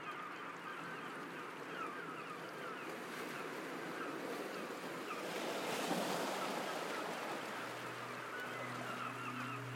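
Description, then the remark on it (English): Water laps steadily against the rocky shore of an island in the Mediterranean Sea, a continuous wash that swells briefly midway, with a low engine drone rising near the end. No one speaks. “You hear water lapping against the shore of a rocky island where the beach sweeps upwards into breathtaking mountains and cliffs.”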